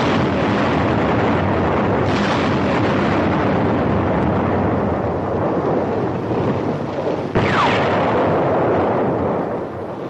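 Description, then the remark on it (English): Bomb explosions from sticks of bombs dropped by planes on a transport rumble beneath a dense, roaring wash of noise, with a couple of sharper blasts breaking through, one early and one near the end. No one speaks. “From the sound of the explosions, they missed.”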